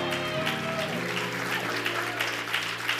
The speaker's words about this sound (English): Come on, somebody give God a hand clap.